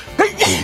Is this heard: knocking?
no